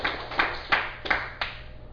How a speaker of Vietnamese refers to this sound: Xin quý vị vỗ cho một tràng pháo tay.